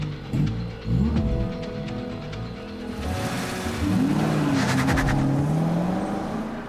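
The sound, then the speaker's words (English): A powerful muscle car engine roars and revs hard, climbing in pitch as it accelerates, with a high squeal of tires cutting in partway through. Loud, with no voices. “That's a lot of muscle for a little lady. You don't think I can handle this car?”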